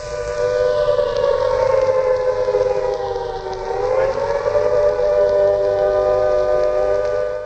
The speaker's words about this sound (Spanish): Lo que aquí escuchamos lo entendí fue esa señal que han escuchado, de esa sirena que han escuchado, fue originalmente puesta en la emisora en BBC One